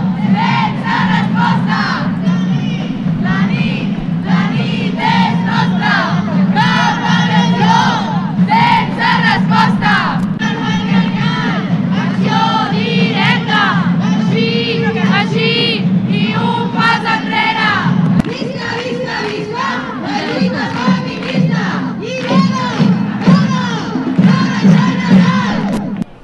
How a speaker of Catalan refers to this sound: Entre els principals crits de protesta que s'han pogut sentir en aquesta manifestació hi havia els següents.